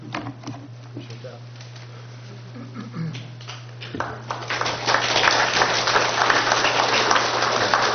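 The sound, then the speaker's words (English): Applause from an audience after a public comment starts softly around the middle and swells into steady, sustained clapping, with a low electrical hum underneath throughout. “You have to clap for me, too, if you're not.”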